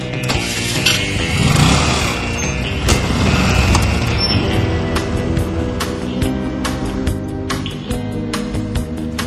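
A scooter and a car start up and drive off together, their engines revving loudly at first, then holding a steady, rumbling drone with occasional sharp clicks, and no voices.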